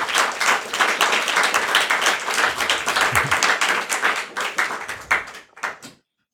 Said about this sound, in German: Dann bitte ich euch für einen großen Applaus für unsere zwei Sprecher und viel Spaß.